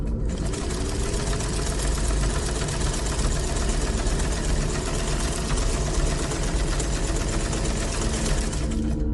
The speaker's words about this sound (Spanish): Al ruido de la máquina de coser que metió en el cuarto de Nina.